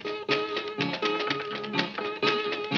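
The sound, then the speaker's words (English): An imitation of a train bell ringing like a church bell: a series of struck, ringing tones repeating in an uneven rhythm, each with rich overtones and a mid-pitched hum, fairly loud with no talking. “As she dropped over that hill and dropped off in the valley, she heard the bell begin to tone like this. Make it sound like a church bell tone.”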